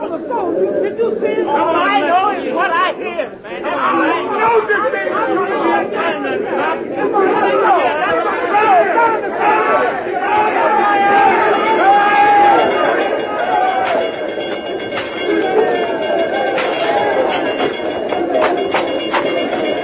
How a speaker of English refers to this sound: Hundreds of Negroes tumbled out of taverns, barbershops, beauty parlors, basements, and tenements. Raging crowds swept through the streets, intent upon avenging the killing of a soldier.